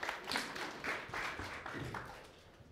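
A church audience claps to welcome a preacher before the sermon, a dense crackle of many hands with brief swells, fairly quiet overall and tapering off toward the end, with no voices.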